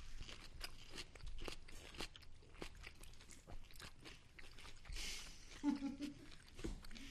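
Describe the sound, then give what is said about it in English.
A crunchy pickle being chewed, with repeated wet, crackling bites in an irregular rhythm at moderate loudness, plus a brief murmur of a voice near the end. “The pickle is really good.”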